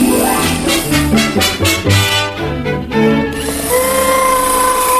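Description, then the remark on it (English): An electric power drill whirs loudly, its motor revving and wavering in short bursts before settling into a steady, high-pitched whine. “You've got your ladder right against the cord to my drill.”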